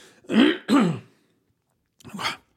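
throat clearing

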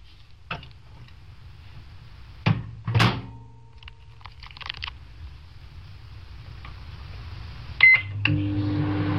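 microwave oven running

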